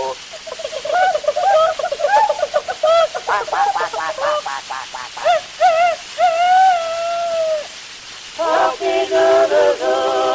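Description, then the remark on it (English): A voice imitates chickens and roosters: rapid, pitched clucking bursts, then a long drawn-out crowing call, followed by more choppy cackling. The imitation is loud and carries on for about ten seconds. “And the chickens and the roosters they go.”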